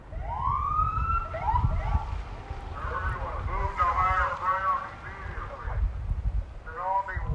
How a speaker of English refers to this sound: That approach included Nixol emergency alerts, tsunami sirens, and fire and police personnel driving through neighborhoods with sirens blaring and lights flashing.